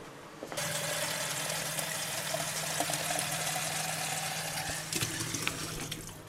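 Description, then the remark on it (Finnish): Clean tap water runs steadily into a coffee pot, a continuous rushing splash that starts abruptly and holds for several seconds, fairly loud, with no one talking. “Nyt laitetaan sitten ihan puhdasta vettä.”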